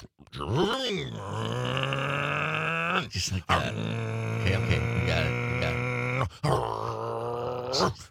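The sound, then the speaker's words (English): A man's voice imitates a car engine shifting gears: a loud, buzzing vocal drone that rises in pitch, then breaks off and resumes twice, giving three revving stretches, with a few words spoken. “I was going through the gears.”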